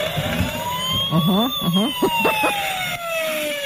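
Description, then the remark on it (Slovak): A toy fire truck siren goes off at three in the night in a children's room, set off by another toy lying on it and pressing it: a steady electronic wail sliding slowly in pitch, with a few short warbling, voice-like bursts layered over it midway. “Áno, presne, to je hračkárske hasičské auto.”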